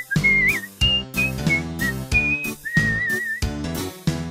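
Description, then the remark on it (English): A pet bird, Splash, whistles a wavering, tune-like melody in tune with a person's singing, in short bright phrases, clear, over steady instrumental music with plucked chords underneath. “Splash slowly lifted one leg and then the other, while he whistled in tune with her.”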